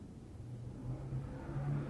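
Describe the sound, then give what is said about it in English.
A car engine rumbles low and steady, its pitch edging upward as it revs and grows gradually louder over two seconds, with no voices present. “What kind of car was that?”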